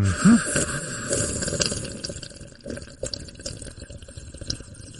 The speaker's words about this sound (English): Hold on, let me have a sip of my morning coffee.